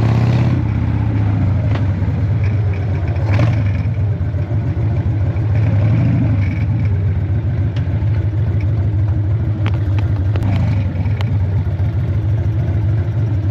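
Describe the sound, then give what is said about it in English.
A loud Harley motorcycle engine rumbles steadily with a deep low throb, rising and easing slightly as it rides along, with wind and road noise underneath and no talking. “It doesn't stop as Harley brakes used to be. So you've got to plan your braking ahead of time.”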